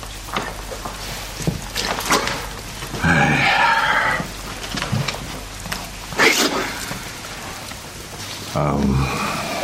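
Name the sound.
rain falling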